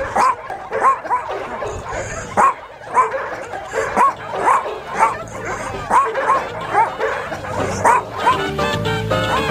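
Chihuahuas bark in a steady run of short, high yips, about one or two a second, mixed with thin whimpering whines over a busy, murmuring background.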